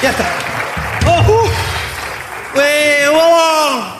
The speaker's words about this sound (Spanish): Un fuerte aplauso para ahí. Ya está.